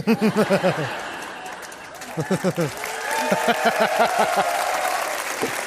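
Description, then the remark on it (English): An audience applauds steadily throughout, a dense, loud patter of clapping, with bursts of voices and cheering rising over it in short rhythmic pulses, as a guest is welcomed onto a show. “That's a lot of applause for against Paul Ryan.”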